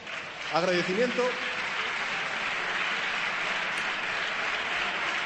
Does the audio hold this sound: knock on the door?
no